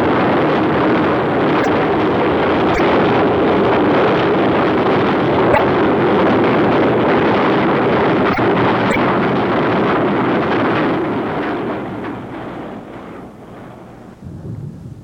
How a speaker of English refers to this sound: That's the destination of this rumbling dragon, the coal cars that mark a portion of today's production down south.